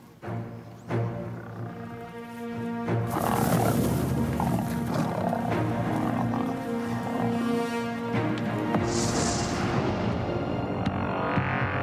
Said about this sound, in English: I thought it would be cool for us to watch a video of a lion attack